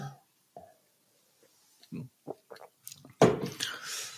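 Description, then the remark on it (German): Someone drinks water from a BPA-free plastic bottle: a few soft gulps and wet mouth noises, then a louder crinkling, splashing burst as the bottle is handled, with no talking. “Ja, und dann trinke ich das und dann plätschert das nochmal über meine Zunge, da kriegen sie nochmal Informationen.”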